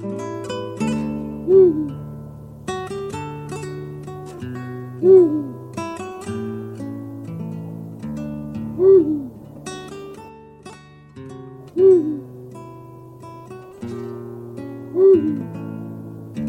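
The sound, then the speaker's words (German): A Eurasian eagle-owl gives five deep, booming hoots, evenly spaced about three seconds apart, each rising clearly above a continuous bed of soft, sustained background music. “Das war der Uhu.”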